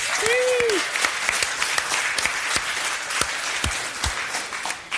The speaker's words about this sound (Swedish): Gott folk, ge en varm applåd för Jonathan Unge.